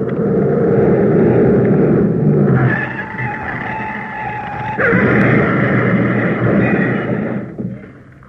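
A stolen large green Daimler speeds south, engine roaring, its tires squealing in a long, high skid before a loud crash bursts out as it goes through a hedge, and the noise slowly dies away. No one speaks.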